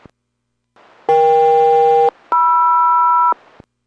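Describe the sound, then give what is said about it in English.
SELCAL selective calling tones sent over HF radio from a Boeing ground station at Everett to a Boeing aircraft during a radio check, code Echo-Kilo-Mike-Romeo: two steady one-second dual-tone bursts separated by a brief pause, loud and clear above a hissing radio noise floor, with no voices. “Boeing Everett has you loud and clear, cell call follows”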